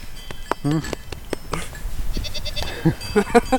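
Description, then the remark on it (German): Several goats bleat in short, wavering cries on a 200-year-old farm up above a valley, overlapping one another, with breathy snorts and rustling in between. “Dort oben auf dem 200 Jahre alten Bauernhof mit herrlichem Blick ins Tal hört man die Tiere stetig meckern und schnauben”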